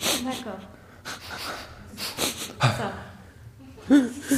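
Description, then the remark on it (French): A voice imitates wet, shaky nasal sniffs after crying: several quick breathy sniffs with short voiced, whimpering catches between them, irregular in rhythm and moderately loud. “Après avoir pleuré, c'est ça, c'est après avoir pleuré, là, ce reniflement-là.”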